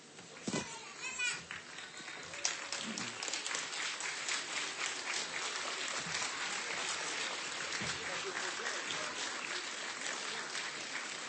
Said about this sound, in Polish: No, bijmy brawo, nie? No. Przyjechali, zagrali, jeszcze nam coś dają.